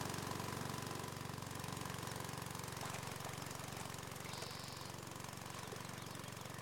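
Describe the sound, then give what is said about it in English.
An underwater suction dredge vacuum runs steadily in 50-degree lake water while scouring the lake bottom: a loud, continuous mechanical rumble with a rapid pulsing chug and a broad hiss over the top. Nobody speaks. “I operate the vacuum in 50-degree water without a wetsuit, and while I can't see much, I do have a permanent ice cream headache that's drilling into my skull.”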